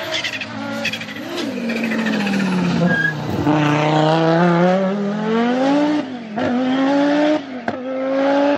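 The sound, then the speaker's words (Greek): An Audi Quattro rally car engine roars continuously at high revs, its pitch dipping and climbing through gear changes, with brief sharp drops as the throttle lifts between shifts. Loud throughout, no voices. “Μιλάμε τώρα, τι να πεις, να μιλήσεις για τους αγώνες, για το Ακρόπολης που άκουσε το κουάτρο από 3 χιλιόμετρα.”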